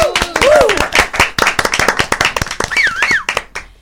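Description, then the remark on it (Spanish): An audience claps loudly and continuously for a few seconds to welcome performers, dense overlapping hand claps with a couple of rising whoops and cheers cutting through near the start and end. “Ustedes mismos me ayudan a aplaudirlos.”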